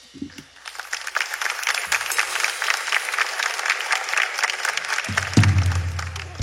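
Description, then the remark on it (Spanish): A comedy show crowd, the couples in the audience asked to applaud, bursts into sustained applause, dense clapping from many hands, with a low voice rising briefly near the end as the clapping continues. “Chicas y chicos, todas las parejas de enamorados, novios, esposos, etc., aplaudan.”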